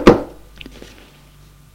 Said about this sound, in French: Elle monte à la chambre. Frappe à la porte de la chambre.